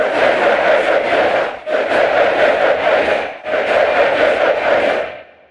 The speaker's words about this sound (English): And use software to apply the rhythm and cadence of the chant to a library recording of a stadium crowd.